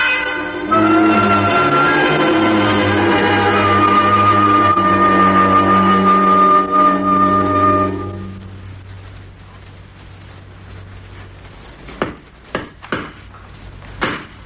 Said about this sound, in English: Oh, don't worry. I can handle an hammer. I was just putting a couple of nails in this picture.